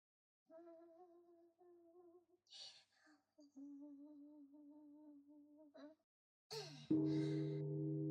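A single deep strike of a New Year's Eve temple bell near the end, its loud low hum ringing on steadily after the impact, following several seconds of softer steady tones and brief clatters.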